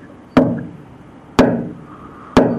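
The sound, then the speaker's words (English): Three sharp, resonant hammer blows tapping out Morse code strike at roughly one-second intervals, each ringing briefly before fading, fairly loud with no voices. “He said, "The hammering in Morse code."”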